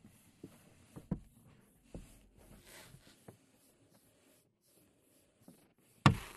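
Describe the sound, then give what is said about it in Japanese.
Soft, sporadic crinkling of a paper bag being slowly lifted, quiet rustles and small crackles scattered over several seconds, then a sharper, louder crumple near the end. No voices. “ほーら、少しずつ持ち上げてるわよ。”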